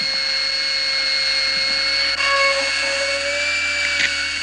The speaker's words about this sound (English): I'm not going into that cavity. That nerve's already dying. A live, freshly cut nerve is infinitely more sensitive. So, I'll just drill into a healthy tooth until I reach the pulse.